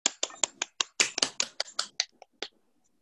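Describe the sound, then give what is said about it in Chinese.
Scattered applause of about a dozen sharp, bright claps in an uneven rhythm, thinning out and dying away before the end, with no voices, welcoming a senior one-star diamond director at a USANA gathering. “让我们以最热烈的掌声欢迎高级一星钻石董事施杰老师。”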